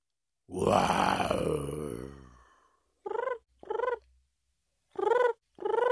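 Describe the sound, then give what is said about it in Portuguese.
A voice imitates heavy, out-of-breath panting: a long rough groan, then four short voiced gasps in a steady rhythm, fairly loud, with brief silences between them. “por que é que estás tão ofegante?”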